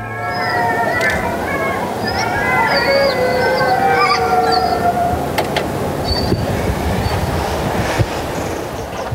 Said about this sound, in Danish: Ja, så stoppede de faktisk. De var lige ved at gå lidt i gang med at hyle, ulvene. Ja, fordi vi kan lige sige til lytterne, det første vi hørte her, det var jo en afspilning af noget ulvehyl, ja, som du lige har sat på.